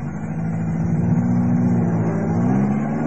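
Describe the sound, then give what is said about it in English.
A car engine runs steadily and loud, its low hum rising slightly as the vehicle pulls away and drives off, with no voices present. “Wait for the car to drive off.”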